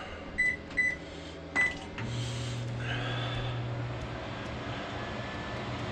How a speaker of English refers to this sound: The microwave is running.